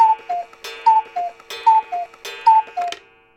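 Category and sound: household object, cuckoo clock ticking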